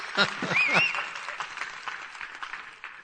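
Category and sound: crowd, audience hand clapping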